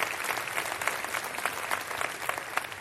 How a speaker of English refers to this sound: Let's clap our hands, everyone, for those joining us.